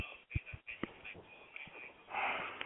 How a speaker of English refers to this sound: Somebody's breathing into the phone really heavy.